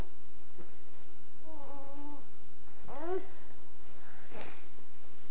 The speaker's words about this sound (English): Uh-oh, here comes the kitty. Real kitty. You gonna pet him? He's gonna try and climb on mommy's lap, only he's really big.